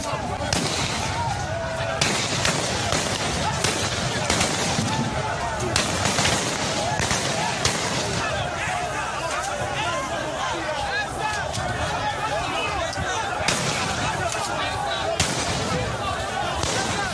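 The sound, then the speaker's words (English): Several sharp gunshots crack at irregular intervals, some in quick clusters, over constant background crowd noise and shouting voices, as protesters come under fire at night at the Lekki toll plaza in Lagos. “Sounds of gunshots as the protesters came under fire last night.”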